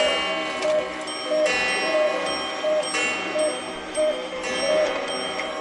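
Many clocks, all set exactly 25 minutes slow, tick together in a steady, overlapping rhythm, a dense layer of ticking at moderate loudness, with no one talking.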